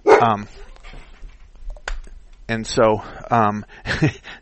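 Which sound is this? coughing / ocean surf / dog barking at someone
dog barking at someone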